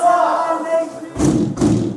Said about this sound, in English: Them sort of sounds. It's a bang-up sound. It's called, we're behind our door and we can't get out.